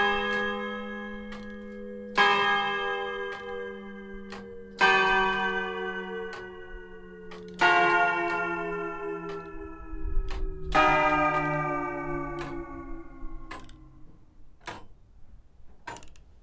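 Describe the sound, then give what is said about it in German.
Village church tower clock bells ring out in slow, resonant strikes, each one blooming with rich overtones and a long fading hum that overlaps the next. About five heavy tolls, with no voices. “Die Kirche gehört ins Dorf und ist der Turm und mit seiner Uhr und so und das ist alles wunderbar.”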